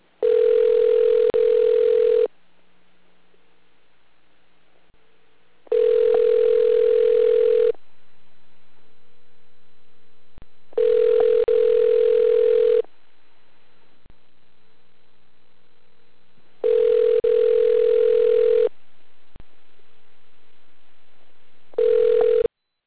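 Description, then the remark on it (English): A phone line ringback tone while a call is transferred through a Food Lion store's phone menu: five loud, steady mid-pitched tone bursts, each about two seconds long, separated by three-second gaps of faint line hum. No voices. “Please wait while we transfer your call.”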